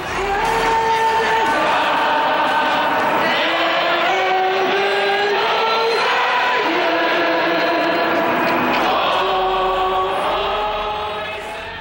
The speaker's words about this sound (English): On October 27th, 1995, thousands of ordinary citizens jammed a large urban square in downtown Montreal. The sea of people waved Canadian and Quebec flags and loudly sang along to the national anthem.